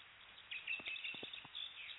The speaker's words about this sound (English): And we can hear those birds in the background chirping away. Yes, we can.